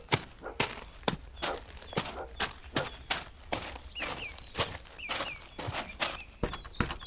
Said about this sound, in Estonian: Täie hooga allamäge tulles lendas hobune rinnaga vastu väravat ja see purunes pilbasteks.